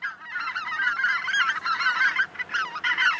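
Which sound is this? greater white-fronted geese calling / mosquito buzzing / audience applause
greater white-fronted geese calling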